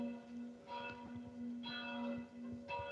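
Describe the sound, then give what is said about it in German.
Church bells ring steadily at 12 noon, their overlapping strikes forming a continuous resonant peal with a sustained low hum beneath; no one speaks. “Bei dir klingeln die Glocken.”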